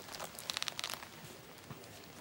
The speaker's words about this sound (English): She's handed Frida a piece of paper.